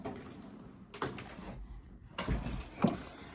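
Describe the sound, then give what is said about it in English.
A door swings shut, with a brief rustle and scrape first, then a sliding sweep ending in a soft, solid thud. No one speaks. “I should actually close my door.”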